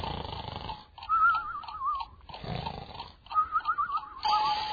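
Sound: alarm ringing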